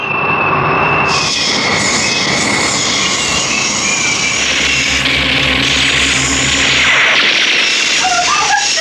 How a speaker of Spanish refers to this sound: Calimán y sus amigos van huyendo en el jet mediano Miklos X-30 robado. Cuando afrontan un nuevo peligro, los cazas, los ultrarrápidos y formidables cazas, rodean al jet conducido por el hombre increíble.